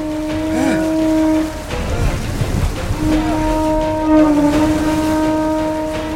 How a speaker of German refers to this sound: Er soll das Muschelhorn blasen. Den Wind besänftigen.